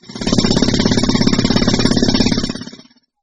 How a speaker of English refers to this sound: It's a drill. It's loud. I don't like it.